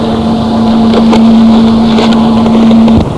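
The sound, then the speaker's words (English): A line of police motorcycles cruises by on a park road, a loud, steady engine drone holding one constant pitch for about three seconds before easing off, with wind buffeting the microphone and no talking. “Line of police coming by right now on motorcycles.”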